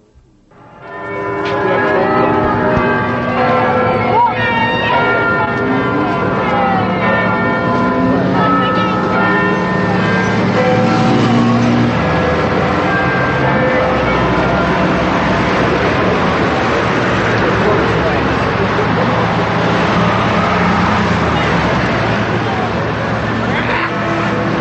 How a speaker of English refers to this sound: First chime of midnight, it's April the 1st. The GLC has breathed its last.